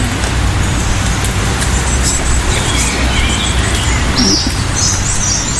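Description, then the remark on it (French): Songbirds sing in the open air in Normandy, a European robin's thin warbling phrases overhead and a blackbird's fluting song a little farther off, over a steady rumble of road traffic. “Là, on a les deux. On a le rouge-gorge au-dessus de nous et le merle un petit peu plus loin.”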